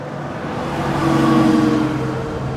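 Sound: bus engine accelerating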